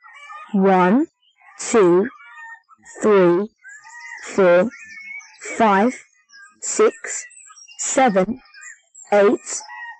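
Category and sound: animal, chickens clucking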